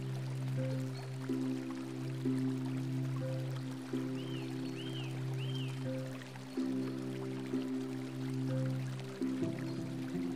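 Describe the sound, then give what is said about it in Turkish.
River water flows in a steady, even rush beneath a low sustained humming drone, with a few brief high chirps midway. No one speaks. “Ah ne keyifli nehir kenarında uyumak.”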